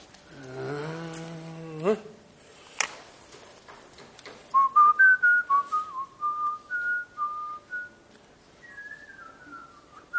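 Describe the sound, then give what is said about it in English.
A person whistles a short, wandering tune of clear, sustained notes that step up and down in pitch, alone, after a brief hummed or voiced sound and a couple of sharp clicks. “Did I drive people nuts when I whistle?”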